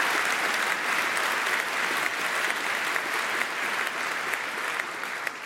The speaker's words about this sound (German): Da gerne einen Applaus für, genau. Fand ich super.